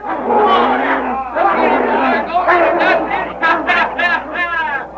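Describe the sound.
A loud, excited crowd in front of a feed store shouts and yells at once, many overlapping voices rising and falling in a continuous uproar, cheering on a fight between two snarling hounds, one named Lobo.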